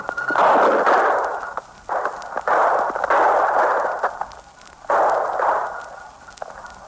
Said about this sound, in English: Listen closely now, and you'll hear the actual gunfire and the excitement that follows.